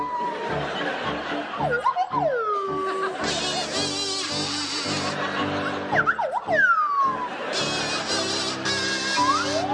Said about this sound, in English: Richard and Rob, I'd like you to provide us with a rendition of the theme from The Good, the Bad and the Ugly to feature Rob Brydon on the kazoo and Richard Osman on the Swanee Whistle.